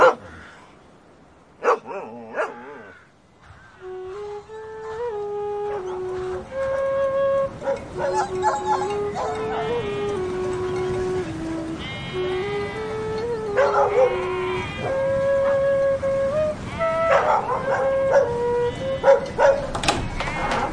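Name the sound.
dog barking and howling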